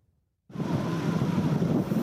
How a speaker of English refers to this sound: There's no race on land or sea that is weirder or wilder than the race to Alaska. The tides run really fast, the wind howls. It's a 750-mile boat race with only one rule: no motors.